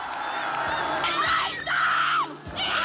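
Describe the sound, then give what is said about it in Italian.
A dense crowd of FC Thun football fans roars in celebration of the club winning the Swiss championship, cheering and screaming, with high shrieks and yells rising above a loud, continuous wall of voices that fills the whole moment. “A Thun la favola diventa realtà e la gioia di giocatori e tifosi è incontenibile.”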